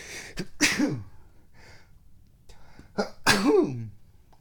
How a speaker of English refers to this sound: Yeah, so sometimes we gotta sneeze. And the interesting thing about sneezing right now is that my cat did not freak out.